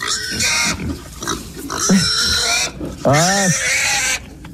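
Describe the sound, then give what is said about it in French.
A frightened pig squeals in loud, shrill bursts, several piercing cries with rising and falling pitch, repeating over a few seconds. “Le premier son de cochon, c'est un cochon qui est apeuré.”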